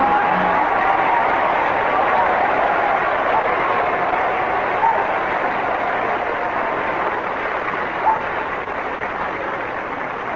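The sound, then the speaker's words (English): Sustained, dense applause from a large studio audience on Mr. Godfrey's program, where an applause indicator picks the night's winner, steady and loud for the full ten seconds and fading only slightly at the end, with no talking over it. “The applause indicator shows the winner tonight on this program is...”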